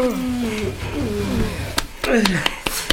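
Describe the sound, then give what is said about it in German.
Loud pounding knocks by two men on the outside of a locked room door, five or six heavy blows in a quick, uneven burst, following and overlapping a low, rough voice. “Von außen klopften die beiden Männer stürmisch an die Tür.”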